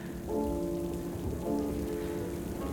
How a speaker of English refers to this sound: runs on through the streaming rain.